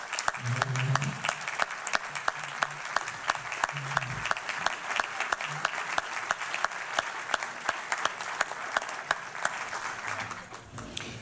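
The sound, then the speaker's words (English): An audience at a civic center breaks into sustained applause and stands for a woman being honored, many hands clapping in a dense, steady patter at a fairly even volume for several seconds, with a few voices faintly mixed in before it begins to taper. “So would everybody please give a round of applause and stand for this delightful and wonderful woman, please.”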